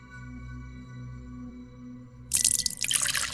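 A quiet low hum gives way to a drink being poured, a bright splashing stream of liquid that starts suddenly near the end and keeps running.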